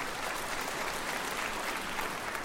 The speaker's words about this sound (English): And a few of you who are tempted to clap apparently agree with me.